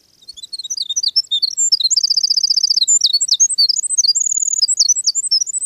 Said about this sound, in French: Il y a aussi le troglodyte mignon, un petit oiseau brun à la queue retroussée. L'été venu, il se déplace sans arrêt entre le sol et les broussailles basses à la recherche d'insectes et d'araignées.